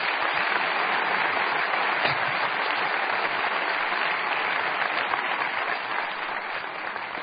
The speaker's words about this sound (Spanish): Denles otro aplauso, por favor.